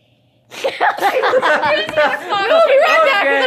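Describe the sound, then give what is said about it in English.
A sudden sneeze bursts out of silence, followed by several seconds of voices and breathy vocal sounds continuing right after it. “okay, I sneezed.”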